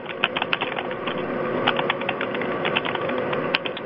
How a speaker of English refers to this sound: I'm hearing all these like typewriter thing in the background. Mm-hmm. Oh, yeah, I heard that. But too. It's not a typewriter.